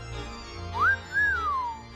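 A person whistles a short two-part phrase: a quick rising note, then a longer tone that swells and slides gently downward, clear over a faint low hum.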